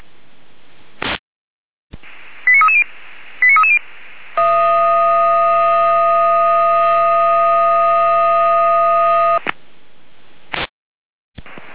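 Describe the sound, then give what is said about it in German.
Fire brigade radio alerting tones over a static-filled channel, alerting the Buddelstedt fire brigade to assist the ambulance service: a couple of clicks, two brief pairs of stepped beeps, then one long steady buzzing tone held for about five seconds before it cuts off. “Alarmierung.”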